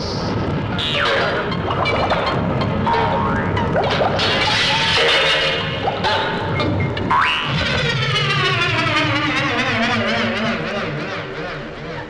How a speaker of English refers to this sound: That was Jimmy Stewart trying to start an old temperamental water pump for the 27th time in the movie Mr. Hobbs Takes a Vacation.